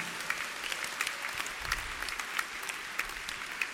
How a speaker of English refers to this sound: Clap your hands for the Lord, somebody.